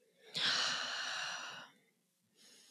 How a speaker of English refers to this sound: I have my patients put one hand on their chest and one hand on their belly, and I have them take three deep breaths or take three breaths and monitor to see where they're at.